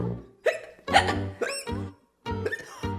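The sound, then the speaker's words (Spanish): A series of sharp, voiced hiccups, about five of them in quick irregular succession, fairly loud, with brief pauses between; no one talks. “¡Ya me agarró el hipo!”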